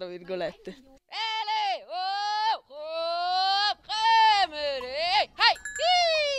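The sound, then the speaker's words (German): A goat herder who spends the summer here makes repetitive calls to lure goats so they come to their owner: several long, high-pitched wordless vocal cries in a row, each held steadily, then dipping and rising, loud with brief pauses between. “Wir locken und rufen die Ziegen mit bestimmten Lauten, die sich immer wiederholen, damit die Tiere zum Besitzer kommen, dem Anführer des Rudels sozusagen.”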